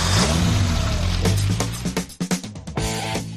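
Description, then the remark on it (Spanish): A loud car engine revs with rising and falling harmonic tones, broken by a burst of sharp clicks and bangs, then settles into a steady droning hum. No one speaks. “1:41, ponte el cinturón que nos montamos en el coche.”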